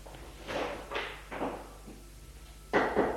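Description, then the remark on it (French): Someone knocks on a door: three evenly spaced raps, a short pause, then two quicker, louder knocks, each a solid wooden thud with no voices. “On a frappé à la porte.”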